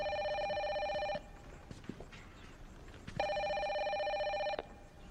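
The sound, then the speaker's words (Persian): An old-style telephone bell rings in two long bursts separated by a pause, loud, with faint shuffling and background noise in between. “تلفن کارت داره”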